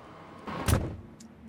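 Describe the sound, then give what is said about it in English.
A woman climbs into a car: a rustling shuffle builds into a dull thump around the middle, followed by a faint click. No one speaks, and a low hum sits underneath. “Get in the car. Unless you want to have this out in public. She climbs in.”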